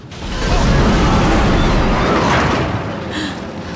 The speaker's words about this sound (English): a fiery explosion rips through the corridor.